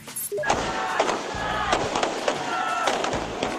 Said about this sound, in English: There's a firecracker sounding as Sri Lankans in the capital of Colombo celebrated the end to the nation's 26-year civil war.